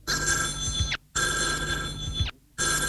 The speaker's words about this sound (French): Sonnerie a retenti, l'hôtesse prend le téléphone.